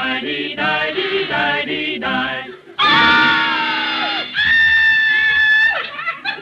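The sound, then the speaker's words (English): A man screams in terror from a nightmare: choppy, strained vocal bursts build into two long, loud, sustained shrieks, with no talking. “Suddenly I heard you screeching.”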